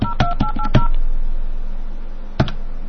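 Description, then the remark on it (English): A few sharp clicks from a telephone hook being flashed while placing a call, mixed with several short touch-tone beeps in quick succession, then a pause and one more click near the end. No one speaks. “I'm going to flash. You better remember how to flash.”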